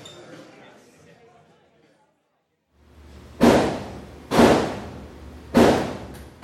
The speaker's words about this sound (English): On a small side street in North Philadelphia, you can hear muffled gunshots. This is the gun range, the city's oldest operating shooting range and teaching facility.